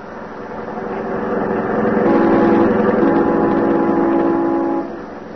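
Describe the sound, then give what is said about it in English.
A car engine drones steadily as the vehicle drives, its hum swelling louder through the middle, then easing slightly near the end. No voices are heard. “I know how to handle a car.”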